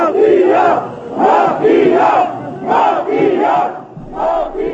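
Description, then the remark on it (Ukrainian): A crowd of protesters in Bulgaria shouts at members of parliament in unison, a loud rhythmic chant rising and falling in about five bursts, the massed voices rough and strained with no single speaker standing out. “Мітингувальники кричали на парламентарів і кидали каміння в поліцейський автобус.”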